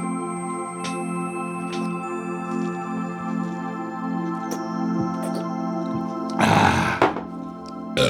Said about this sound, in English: I'm walking by. I'm hearing belching. What's going on in here?